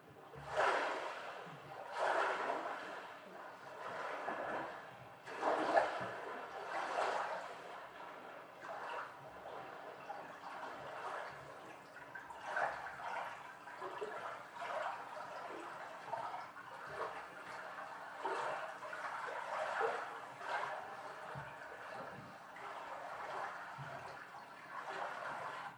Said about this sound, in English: These were some lake waves that added some wonderful kind of crackly carbonated water sort of sound. So there's no bassy roar. It's all this kind of high frequency crackle that you hear that I really liked.